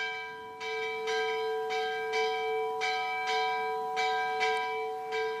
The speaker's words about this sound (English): The ship's bell at HMS Raleigh ringing out.